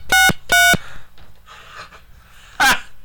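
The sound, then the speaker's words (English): A telephone ringing tone sounds twice in quick succession as a call is placed, two short bright electronic bursts, followed after a pause by a brief harsher blip. Loud, with no one talking. “it's ringing right away.”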